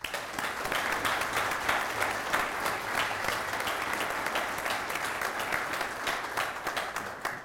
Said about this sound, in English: So first, this round of applause is a thank you to Professor Mascott.